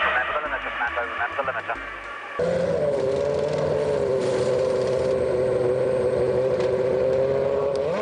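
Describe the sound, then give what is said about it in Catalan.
Alonso's Renault number 8 Formula One car holds a steady, high-pitched droning engine whine at a constant speed as it enters the pit lane at the Circuit de Catalunya, following a couple of seconds of muffled radio-style chatter and music in which his engineer reminds him to activate the speed limiter. “Alonso enfila l'entrada del pit lane i el seu enginyer li recorda que activi el limitador de velocitat.”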